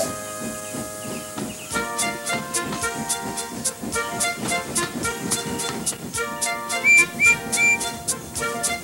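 Two steam engines set off, chuffing along the rails in a steady, brisk rhythm over sustained musical tones, with three short high whistle toots near the end. No one speaks.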